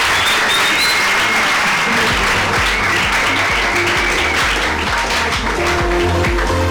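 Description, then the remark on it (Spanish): Steady audience applause at UMH for Joaquín Ballester as he prepares to play the piano, a dense, loud wash of many hands clapping at once with no voices standing out above it. “Bueno, pues vamos a darle un fuerte aplauso a Joaquín Ballester mientras se prepara para tocar el piano.”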